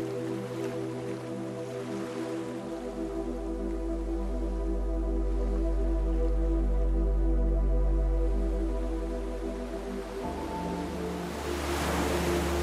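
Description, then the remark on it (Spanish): Soft ocean surf swells and recedes on the shore in a long wash beneath a steady, sustained musical drone, with a fresh rush of waves building near the end. “Caminas lentamente hacia la orilla.”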